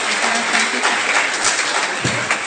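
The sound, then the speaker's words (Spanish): An audience at an international Gnostic congress applauds steadily, with dense crackling clapping that holds an even loudness throughout and no voices standing out above it. “Vamos a darle un aplauso, por favor.”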